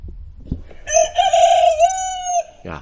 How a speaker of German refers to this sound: Also, Hast du was gehört? diesen Vogel kenne ich sehr gut. Das ist mein Hahn.